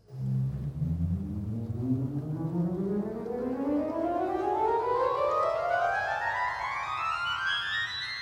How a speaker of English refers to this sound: That's the 8-foot principal pipe on the grate, which is the middle keyboard. And yeah, so you pull out the 8-foot principal stop and you have wind rushing into the wind chest for, that particular rank.